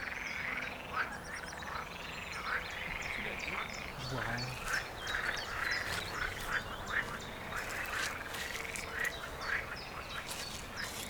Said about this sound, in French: Les amphibiens aussi, les crapauds qu'on trouve vraiment que dans le sable, en bord de mer, comme le crapaud calamite, c'est aussi des espèces qu'on peut trouver ici.